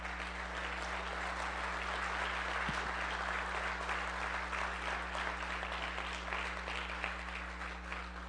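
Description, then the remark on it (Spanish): A church audience applauds God steadily during a sermon, a dense wash of clapping hands that holds at an even loudness throughout, with a low constant hum underneath and no voices standing out. “Dele un aplauso a Dios.”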